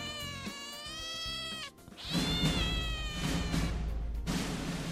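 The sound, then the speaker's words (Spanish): A kitten meows, played in place of the Metro lion's roar, in long, high, wavering cries, first one drawn-out call that rises and falls, then a second strained meow over a low rumbling background, with no talking. “Bueno, habíamos pedido el rugido de León de la Metro para hablar de cine, porque llega nuestra crítica, pero ya saben, como solo ven los trailers, pues en vez de León nos ha salido un gatito.”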